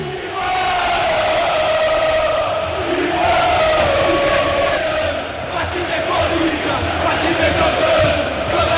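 A large crowd of Corinthians organized supporters (torcida organizada do Timão) chants in unison as the Corinthians players come toward them after the win over Atlético Mineiro, a loud, sustained sung refrain with a steady pitched melody line rising and falling over dense crowd noise.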